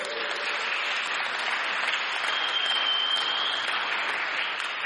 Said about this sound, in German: Und jetzt dürft ihr der Bea einmal einen Applaus geben.